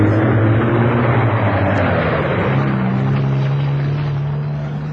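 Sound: truck engine running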